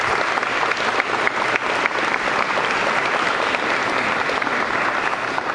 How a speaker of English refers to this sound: But it's the staff, the legal assistants, the investigators, and the prosecutors in the district attorney's office that make that happen. So if you can, please give them a round of applause for that.